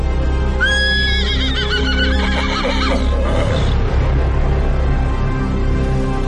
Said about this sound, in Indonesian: Tapi tiba-tiba aku seperti mendengar suara rintihan kuda.